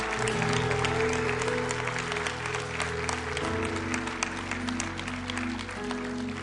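An audience applauds steadily and loudly for several seconds to encourage people coming forward, a dense wash of clapping over sustained organ-like chords droning underneath, with no clear talking.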